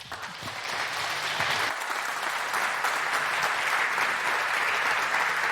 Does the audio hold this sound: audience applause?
yes